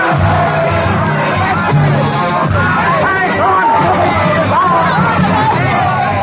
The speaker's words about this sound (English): Ragged, bearded patriots, eyes hot with the lust of battle, swarm madly in the Rue Saint-Nicaise, their pikes raised high in the air, their voices lifted in a hoarse hymn of hate.